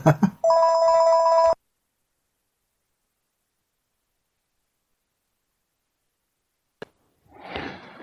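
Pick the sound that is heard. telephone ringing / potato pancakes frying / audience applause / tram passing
telephone ringing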